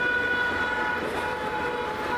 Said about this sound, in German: Toll, ihr könnt hupen.